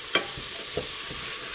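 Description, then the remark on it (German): Steady frying sizzle of pumpkin pieces and onions in the pan, broken by a few sharp scraping clinks of a spoon stirring, with two louder knocks against the pan's side; no one speaks. “Bisschen braten, umrühren.”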